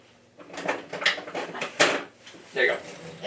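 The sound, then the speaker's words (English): The top drawer of a kitchen, holding spatulas, slides open with a rattle of utensils inside while a cake is being made, followed by a few clattering bumps and a shove closed, with muffled voices in the background. “In the top drawer, right behind you, right behind you, there is spatulas.”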